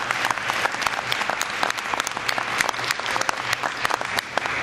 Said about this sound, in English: And judging from the talent in that choir, they are doing a brilliant job at it. Can we give these kids another round of applause? I thought they just did a fantastic job.